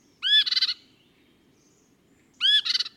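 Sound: swainson's thrush song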